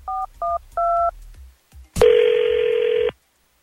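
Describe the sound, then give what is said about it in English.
Three quick touch-tone dialing beeps, the last held a bit longer, then a click and a loud, buzzy phone ring tone lasting about a second, with no voices, as a call is placed from the morning show at radio station 102.9 The Wolf. “We'll try to get him on the phone with this page, and we'll see what he says if he agrees to come on Second Date Update with us.”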